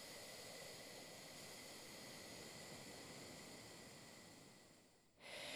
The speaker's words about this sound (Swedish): Jag andas in.